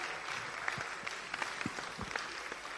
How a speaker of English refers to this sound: Actually, you can just give her a clap as she's coming forward.